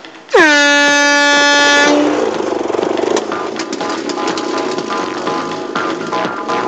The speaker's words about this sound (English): Now for the speed test. Tunnel rats, go on the sound of the horn!